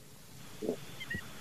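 A seagull calls twice in quick succession, short nasal squawks rising above a low background hiss, fairly faint, during a light rain shower at Tiki Island, with no one talking.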